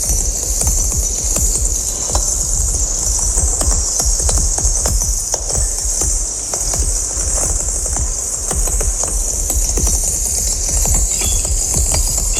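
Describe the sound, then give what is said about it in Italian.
Dense, processed crackling of burning coal, progressively transformed from within, opening an art installation: a steady stream of sharp pops and clicks over a bright, constant hiss, with low rumbling thuds underneath and no voices throughout. “Sono suoni di carbone che brucia, naturalmente elaborati.”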